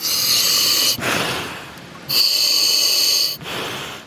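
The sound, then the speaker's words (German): A voice imitates breathing through a scuba regulator and air hose from a tank worn on the back: two hissing inhales alternating with two softer, rushing exhales, each lasting about a second, loud with no talk. “Da atmet man, dann hat eine Brille auf und dann hat man eben so einen Ring noch in der Hand und soll Fische zählen dabei.”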